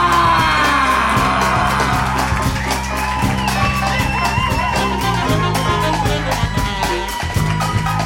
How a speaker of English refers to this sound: Give a massive, massive round of applause and a big Grooveverse welcome